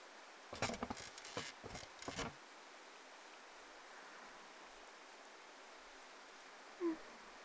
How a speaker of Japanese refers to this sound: 私、雨の音好きなんです。